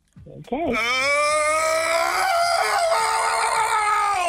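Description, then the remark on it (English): A tipsy person lets out a long, loud whooping scream, rising at the start and then held at a high, strained pitch for several seconds. “Is that a tipsy person or a toddler?”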